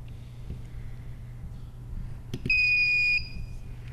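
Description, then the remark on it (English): A quiz buzzer sounds once as a contestant buzzes in during a quiz competition, a steady high-pitched electronic tone held for under a second, preceded by a couple of quick clicks over a low background hum. “Buzzed it, didn't quite catch it.”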